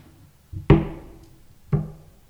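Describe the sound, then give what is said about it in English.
Two slow, heavy knocks about a second apart, each a solid thud with a short resonant ring, like knuckles rapping on a wooden door, with no voices. “I believe the Holy Spirit can get on the outside of the door. Knock.”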